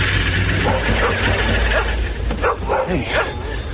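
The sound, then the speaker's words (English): A stray dog named Tides barks and yips several times in quick, uneven bursts over a steady low rumble of background noise with a hint of voices. “And more for company than protection, I took along Tides, the stray dog I'd befriended.”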